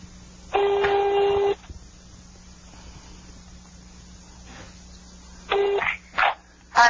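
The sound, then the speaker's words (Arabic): A landline phone call from Saudi Arabia to a number in Rafah rings out: one clear, steady electronic ring tone lasting about a second, a long pause, then another ring cut short by a few brief bursts of sound. “أي هذا قاعد يرن بس ما أدري عاد الصوت واضح عند المشاهدين ولا لا؟”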